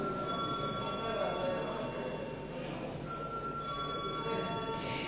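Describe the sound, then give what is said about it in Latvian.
A parliament voting bell rings continuously and steadily for the whole stretch, a loud sustained electric ringing with a faint murmur of the chamber underneath, rung before a vote on a deputies' proposal. “Lūdzu zvanu.”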